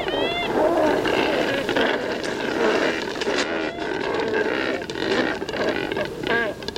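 cormorants croaking

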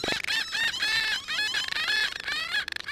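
house finch singing

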